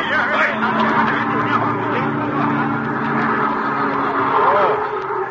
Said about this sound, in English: That was close. I'm sorry I had to grab you like that. That truck was coming right at us.